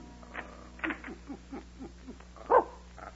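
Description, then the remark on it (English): A small dog, Binky, whimpers in a run of short, high, falling whines, roughly eight in quick succession. A sharper, louder yip comes near the end, then a brief final whine. “We've got it badly, little dog.”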